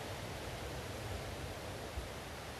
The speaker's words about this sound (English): And so we allow this moment of receptivity to the sound, to the message of the water, and just being with it, allowing it to be the ambiance, the carrier of this message.